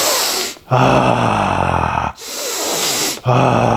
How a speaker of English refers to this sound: It takes practice, but the breath is number one thing. Deep belly breathing. Make some sound on the exhale. This is how I often sound when I'm engaging in more intense sex.